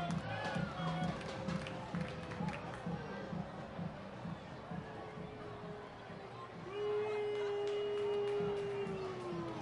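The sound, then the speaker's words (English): A baseball stadium crowd murmurs, then swells into a long, low, sustained booing at pitching coach Matt Ford as he heads out for a mound visit in the bottom of the eighth, growing louder over the final few seconds. “Matt Ford getting booed as he heads out there for the mound visit.”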